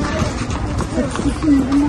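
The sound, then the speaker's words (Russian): Hooves clip-clop steadily as horses walk past through a market in an old town, set against a busy outdoor background with voices murmuring. “Вот и видите, какие тут кони ходят.”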